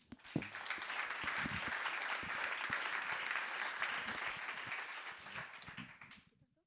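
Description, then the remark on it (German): Steady audience applause for two people about to read a Bible passage, 1 Corinthians 12:12–26, a dense crackle of many hands clapping at even loudness for about six seconds before tapering off quickly into silence. “Einen herzlichen Applaus für euch.”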